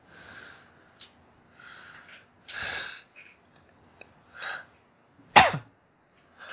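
A run of raspy, breathy coughs, several short hacking bursts spaced apart, then one sharp, loud explosive cough near the end, with no talking.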